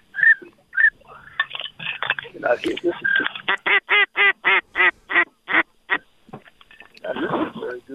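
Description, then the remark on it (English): A person blows a pintail duck whistle to call in a flock of pintails: scattered chirps, then a loud, steady run of about ten short, evenly spaced trilling whistles, trailing into a rougher burst at the end. “Let's see if you can whistle them in. There we go. Nice pintail call.”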